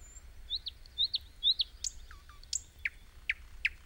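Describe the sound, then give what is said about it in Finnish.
A nightingale sings alone in a rapid series of bright, whistled notes, first rising chirps then sharp repeated whistles dropping in pitch, clear over a faint low rumble. “Satakielellä on hyvin suuri reviiri ja sen vuoksi sen laulu on hyvin voimakasta.”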